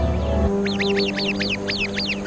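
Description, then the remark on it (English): A sentry bird standing guard in a treetop sounds the alarm at a viper, giving a rapid series of sharp, repeated alarm calls, about eight harsh notes in quick rhythm, loud over a low background hum. “The sentry bird immediately sounds the alarm.”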